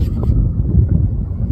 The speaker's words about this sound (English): You can hear the wind, right? You can hear the wind. Yeah. It's windy.